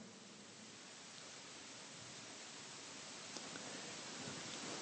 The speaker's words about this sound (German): Die höher werdenden Wellen heben und senken das Boot bedrohlich. Das verheißt nichts Gutes. Fallwinde können den See Genezareth im Nu in tödliche Fluten verwandeln. Der Wind braust auf. Der Regen peitscht die tosende See. Wie hört sich das an?